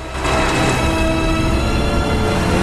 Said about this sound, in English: She swings the car around and speeds off down the muddy track.